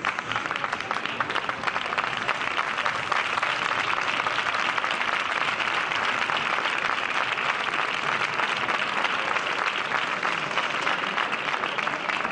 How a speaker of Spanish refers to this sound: Ahí vienen los aplausos. Era el fin.